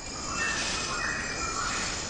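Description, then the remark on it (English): Steady jungle ambience on the island of Borneo: a dense wash of insect hiss with faint high bird tones, and soft rustling beneath it from a maroon leaf monkey jumping from branch to branch high up in the canopy. No voices, constant level throughout. “It's a jungle on the island of Borneo, and the faint rustling in the background is a maroon leaf monkey jumping from branch to branch high up in the canopy.”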